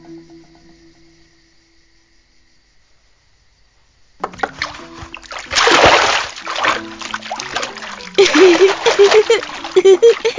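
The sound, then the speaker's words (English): After a few quiet seconds, water splashing starts: irregular sloshing bursts that swell loudly twice as a child washes himself. “child who can bring himself into the world can wash himself.”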